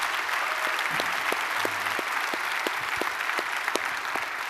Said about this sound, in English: Now, I'm going to ask you to do one more applause, and I want you to applaud for all of our child care workers, nursery. Make it loud, though. Make it loud.